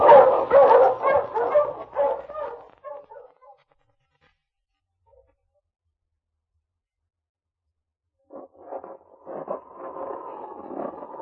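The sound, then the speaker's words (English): A pack of sled huskies barks and yips excitedly in a dense, overlapping burst, falls silent for several seconds, then resumes with scattered barks and a drawn-out whining howl, in bitter cold. “Oh, those dreadful dogs. They look like wolves.”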